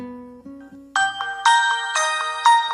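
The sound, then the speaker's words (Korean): A melodic ringtone of an incoming phone call plays on its own, a stepped sequence of clear electronic tones that climbs from a low start to bright, chiming notes repeating in a steady rhythm, loud. “엄마, 아 일할 때 전화하지 말라고 그랬잖아. 왜 이렇게 전화를 해?”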